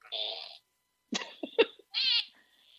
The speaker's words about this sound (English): I couldn't actually hear it before, but now I can. This is the one that happened. So why do you have a fart keychain? My dad bought it for me as a little birthday present.